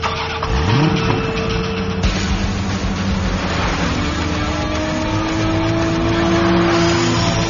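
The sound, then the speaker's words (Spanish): The engine of a 2019 Suzuki Swift Booster Jet Sport revs up with a rising growl, then holds a steady, throaty roar with climbing harmonic whine, loud and continuous for several seconds with no voices. “Sentir la potencia de un deportivo no es para todos.”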